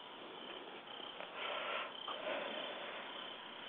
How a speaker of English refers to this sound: Yeah, you're hearing crickets.